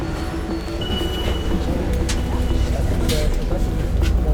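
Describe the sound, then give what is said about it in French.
A night bus's engine rumbles steadily, with a few brief hissing bursts like air brakes as it pulls in to the stop, while faint voices murmur in the background. “Ah, cool, le bus de nuit arrive.”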